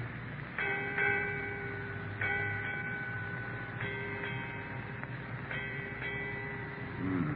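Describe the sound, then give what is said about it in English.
A ship's bell strikes eight bells, eight times in four evenly spaced pairs, each clear metallic tone sustaining and overlapping the next, over a steady low rumble. “Eight bells, Captain.”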